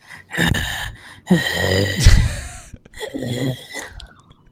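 Heavy breathing into a microphone, a series of loud, rough gasping inhales and exhales in uneven bursts, with no talking.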